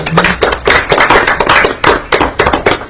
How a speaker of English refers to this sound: Well, first of all, I'm going to do a round of applause for you.